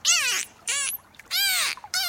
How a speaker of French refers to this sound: Écoutez ça, docteur. Oui. Je crois que Plipper, le dauphin, essaie de nous parler.